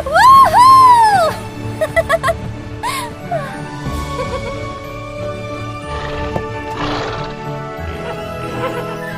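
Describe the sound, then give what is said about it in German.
A loud, high, wavering whinny from a herd of unicorns opens, followed by shorter snorting neighs and quieter rhythmic bursts that may be hoofbeats over a steady low background, without any talking. “Sie fliegen gemeinsam über die Wiesen mit leuchtenden Blumen, vorbei am Wasserfall und einer Herde wunderschöner Einhörner.”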